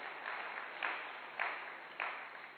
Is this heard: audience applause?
yes